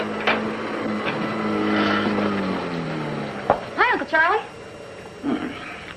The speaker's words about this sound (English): How come you're using the vacuum cleaner in the living room at 4 o'clock in the afternoon?